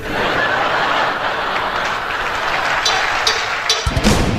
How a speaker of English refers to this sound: I'd like to ask your help. The people in the cheaper seats, clap your hands. And the rest of you, if you just rattle your jewelry.